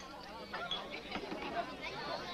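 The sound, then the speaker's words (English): A steady murmur of crowd chatter, many overlapping voices blending into a continuous babble at moderate level with no single speaker standing out, as the crowd waits for a song to be sung. “Yeah, I think that there's the crowd just waiting for the song.”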